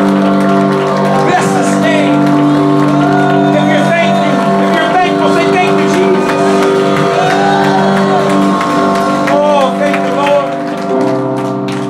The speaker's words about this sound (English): Come on, if you're grateful, give him a clap offering. Give him a clap offering.